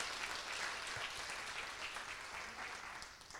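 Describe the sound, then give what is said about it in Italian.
A crowd claps steadily throughout, a dense, continuous patter of many hands with no voices rising above it and no clear break in the rhythm. “no, è gloria a Lui, dai un applauso a Lui.”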